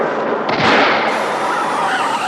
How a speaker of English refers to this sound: But while recording, Jack hears a car skidding and a tire blow out.